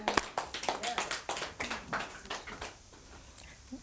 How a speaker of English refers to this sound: Can you give God a clap?